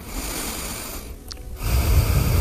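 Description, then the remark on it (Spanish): A man breathes right into the microphone: an airy breath, a brief lull, then a heavier, rougher breath with a low rumble. No one speaks. “Quiero oír tu respiración, ¿eh? ¿Cómo es la tuya?”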